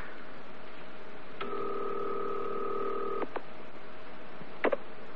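An operator connects a payphone call to the New Milford Police: a steady two-note dial tone hums for about two seconds, framed by switching clicks, then a couple of sharper clicks follow over faint background hiss.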